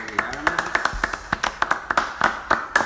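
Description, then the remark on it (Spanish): A few people clap in quick, uneven bursts for the sponsor Aubie Garments, the sharp claps fairly loud and steady for about three seconds, with a brief voice murmuring underneath at the start. “Un aplauso.”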